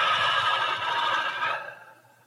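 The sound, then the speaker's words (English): A long, breathy exhale, fairly loud, streaming out steadily for over a second before trailing off into quiet: the out-breath of a two-stage breath, after a big breath in and a sniff in. No one speaks. “And just noticing, take a big breath in and sniff in and breathe out. It's called a two-stage breath.”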